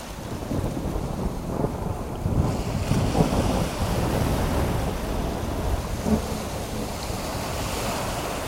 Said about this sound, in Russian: Неожиданно разразилась страшная буря. Море как будто закипело. Громадные волны с чудовищной силой набрасывались на корабль и яростно сметали с палубы все подряд.